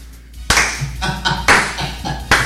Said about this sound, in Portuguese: Palmas, palmas, palmas. Palmas para ele.